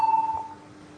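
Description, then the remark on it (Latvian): A parliament voting bell, rung before a vote on the 13th proposal, sounds as one steady, fairly high electronic tone lasting about a third of a second, then cuts off, leaving a faint low hum with no talking. “Paldies, lūdzu zvanu.”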